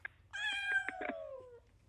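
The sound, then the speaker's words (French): A cat named Bernie lets out one long, drawn-out meow, its pitch sliding slowly downward, with a few faint clicks and rustles around it and no talking. “Miaou.”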